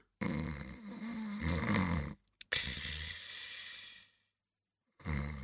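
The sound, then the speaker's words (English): Loud, rasping snores from a man sleeping, with a deep rumbling buzz: a long snore, a brief pause, a second drawn-out one that fades off, then silence before a third begins. No one speaks. “What are you doing, …? I'm sleeping, Marie. Good night.”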